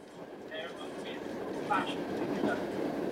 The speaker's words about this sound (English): Yeah, I'm on the train, mate.